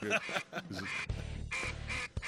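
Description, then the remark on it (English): A duck call blown by a four-time champion duck caller in a quick run of loud, raspy quacks, with a couple of longer drawn-out notes near the end, no talking underneath. “four-time champion duck caller”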